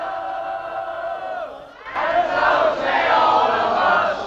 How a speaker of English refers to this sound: by a two-tiered cake as the rest of the band and the crowd of well-wishers sing around them.